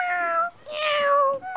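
A cat meows loudly in a few drawn-out, tonal cries that run almost back to back, with brief breaks between them and no talking.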